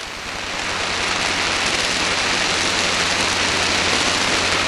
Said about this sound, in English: to the sounds of a jungle night in Vietnam as you lay in ambush, listening. and the other sounds of the monsoon rain pouring down.